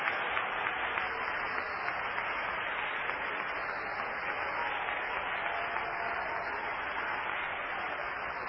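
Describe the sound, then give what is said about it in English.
An audience claps steadily for several seconds as a hand clap of praise to the Lord, a dense, even wash of many hands at a constant moderate loudness with no voices standing out. “Let's all give the Lord a hand clap of praise.”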